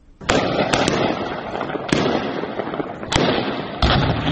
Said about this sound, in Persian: صداهای شلیک های متواتر گلوله از شهر زرنج مرکز ولایت نیمروز، جایی که گفته می شود صبح امروز گواه درگیری میان نیروهای امنیتی طالبان و اعضای شاخه خراسان گروه داعش بوده است.